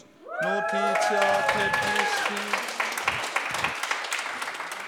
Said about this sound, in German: Gebt mal einen fetten Applaus für diesen allmächtigen Moderator da drüben.